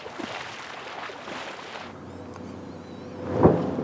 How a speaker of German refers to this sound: Oh, Flugabwehr. Sieht so aus, als käme eine Rakete hierher. Das ist Flugabwehr. Die Rakete wird abgefangen.